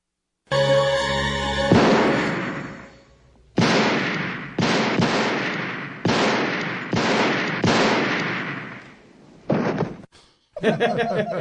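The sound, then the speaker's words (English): A brief tonal sound gives way to a run of loud, cheap cartoonish thud effects in a film's opening, about eight heavy booming hits in an uneven rhythm, each trailing off in a short echoing decay. “the cheap sounding thud that both Dan and Chloe love. Cartoon sound effects, man, get me every time”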